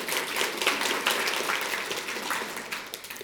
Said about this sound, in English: Thank you, guys. Yeah, give them a clap. What a good job.